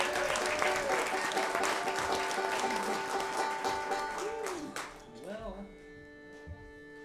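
An audience applauds a musician on stage with dense, continuous clapping for about five seconds before it thins out and fades, leaving a sustained musical tone and a few scattered claps.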